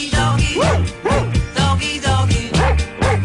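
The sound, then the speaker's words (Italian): A dog barks loudly, around five or six sharp barks in a steady, evenly spaced rhythm, with a low continuous hum underneath. “Doggy.”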